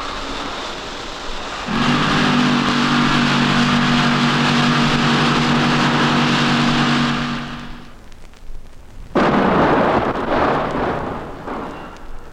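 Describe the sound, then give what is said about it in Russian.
A long, heavy roar with a droning mechanical tone runs for several seconds, fades, then a second sudden blast of rumbling noise erupts, an explosion from blasting. No one speaks. “Взрыв был замечательный.”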